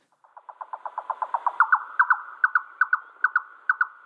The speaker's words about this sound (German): Und ich würde die Stimmen einfach mal abspielen. Ich fange mal an mit dem Rothals-Ziegenmelker.